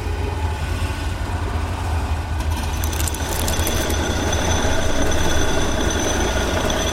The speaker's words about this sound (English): Gibson turns a few of the dials, diverting power to the door mechanism from other areas in the space station. A few minutes later, the vine-like structures keeping the door closed snap under the increased force, and the door grinds open.